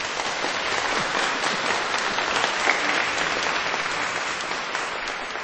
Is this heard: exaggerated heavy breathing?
no